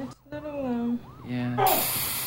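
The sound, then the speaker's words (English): Wordless voiced sounds rise and fall briefly, then a steady aerosol spray hiss bursts in and continues loudly to the end as someone sprays a camera with an aerosol can. “Spraying the camera.”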